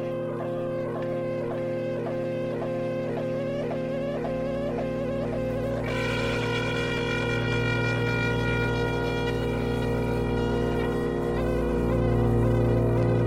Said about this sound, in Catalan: Just en aquell moment es produí una mena d'interferència en la comunicació. I seguidament, al voltant seu, començà a sonar un xiulet sorollós i molest que anava augmentant de volum.